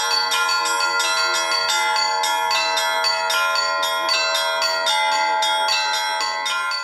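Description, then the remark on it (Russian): Church bells rung by a girl ring loudly and continuously, struck in quick, steady succession so their bright, sustained tones overlap into a dense, shimmering peal, with no voices. “Учиться звонить в колокола ей было нетрудно.”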